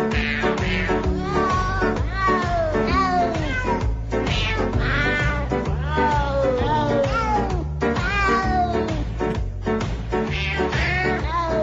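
Cat meows pitched and sequenced into a melody over a steady musical backing, loud and continuous, with repeated rising and falling meow notes forming a festive tune.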